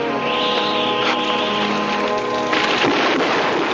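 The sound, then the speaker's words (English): Steady rain hisses and patters, growing heavier partway through, with a low rumble underneath like thunder. No voices. “Rain starts to fall, and they dash to the hotel.”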